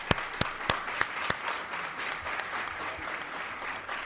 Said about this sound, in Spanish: Vamos a dar un aplauso al grupo.